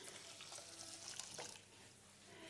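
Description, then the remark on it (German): Boiling water is poured steadily over washed millet, a continuous splashing hiss with a brief swell in the middle, and no voices. “Und jetzt kommt hier, die ist das kochende Wasser, das ich hier in der Hand trübe.”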